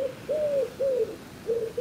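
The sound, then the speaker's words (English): A wood pigeon coos in a soft, rhythmic series of low, hollow hoots, repeated four or five times at a steady pace, clear against a quiet background. “That's the wood pigeon. It's not a cuckoo.”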